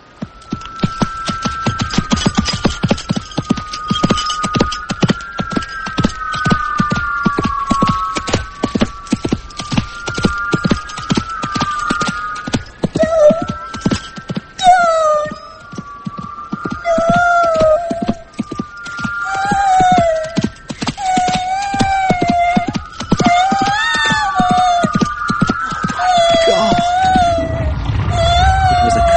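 Horse hooves clip-clop in a fast, steady rhythm throughout, loud and close, while short high whinnying calls rise above the hoofbeats in the second half, with a sustained tonal hum running underneath.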